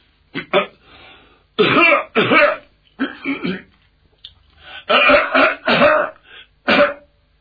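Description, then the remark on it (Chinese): A voice imitates the deliberate coughing and throat clearing of the character Zhao Hu, standing outside the door to get Lord Bao's attention: a series of loud hacks and gruff throat-clears in uneven bursts, pausing briefly between them, with no ordinary speech. “您听，这哪是正经咳嗽啊，这是有意的跟包的人打招呼。”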